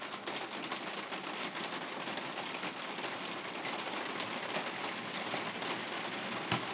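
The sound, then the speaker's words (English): Heavy rain of big, fat drops pelts down steadily, drumming and crackling on a surface in a dense, continuous patter, with one sharper splat near the end. “They're really big, fat drops of rain. It's not normal rain.”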